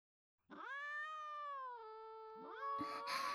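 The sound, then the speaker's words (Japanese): Cats begging for treats as they are about to be fed meow: one long, insistent, drawn-out meow, then a second overlapping meow rises near the end, with a brief rustling clatter underneath. No talking. “私は、猫におやつをあげてからお茶を入れてきます。”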